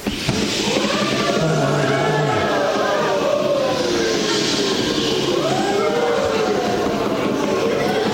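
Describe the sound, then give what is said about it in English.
A crowd of voices, playing sailors on a boat, imitates a storm, with whooshing wind sounds, sliding moans rising and falling in pitch, and a steady rushing hiss like waves, loud and continuous throughout. “You can be, you're the sailors, you're on the boat, you can make all kinds of noise, you can make noise like the wind, the waves, you can go, oh, no, you can whatever you want.”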